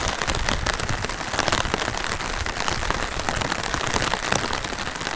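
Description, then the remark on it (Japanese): Steady rain patters densely on a clear vinyl umbrella overhead, a continuous crackling hiss of countless drops with no voices. “ビニール傘っていうのは面白いですね。面白いっていうか、雨粒が透けて見えるからね。”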